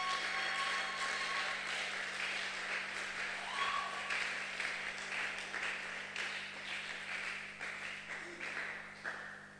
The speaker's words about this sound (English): I think you can thank God by clapping and shouting. Oh, I think there should be better clap.